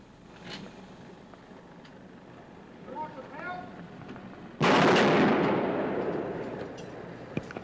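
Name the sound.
gunshots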